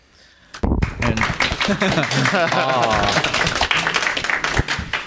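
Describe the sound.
A crowd bursts into steady applause after a brief quiet moment, dense clapping sustained for several seconds with voices and cheers mixed in close by.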